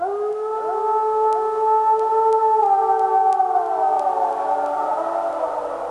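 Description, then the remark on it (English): Several American wolves howl together in long, overlapping tones that rise and slowly glide downward, forming a steady, eerie chorus with no talking. “That's the chilling sound of American wolves, a species which was deliberately eradicated from the Yellowstone National Park in the 1920s when they were blamed for attacks on the native elk.”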